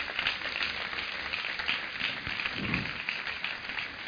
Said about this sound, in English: Women are wonderful. Give our women a super clap offering.